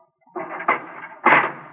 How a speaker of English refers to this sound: I wish you to walk to that cell in the far corner. Go in and close the door behind you.